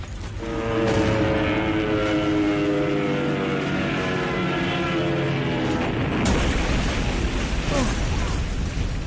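A droning aircraft engine holds a steady whining tone for several seconds, then a loud crashing boom hits and leaves a rough, rumbling roar as a German plane, shot at by Poles, goes down into the city centre amid gunfire.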